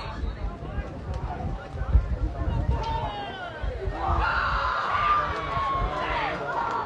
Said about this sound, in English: Student section getting a little bit loud to my bottom right. A healthy crowd on hand, too.